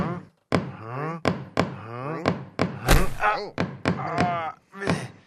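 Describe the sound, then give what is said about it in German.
A series of irregular knocks from someone knocking, about eight or nine sharp thuds spread over a few seconds, fairly loud, with voice-like tonal sounds running between and under them. “Da klopft einer.”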